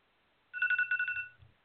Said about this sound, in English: That would be the timer.